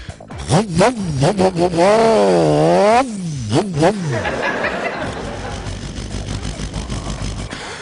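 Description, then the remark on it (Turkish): A voice imitates a 1000cc Suzuki motorcycle revving: short buzzing blips, then a long rising-and-falling rev, more quick blips, and a breathy, rumbling idle-like hiss to finish. “Peki Suzuki'ye geçsek binlik miydi Suzuki? Evet, binlik.”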